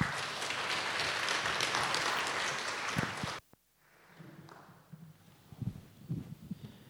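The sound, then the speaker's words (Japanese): A church audience applauds with dense, steady clapping for about three and a half seconds to welcome a newly ordained pastor coming up to give a greeting, then it cuts off sharply, leaving quiet rustling and a few soft thumps. “拍手を持って迎えましょう。”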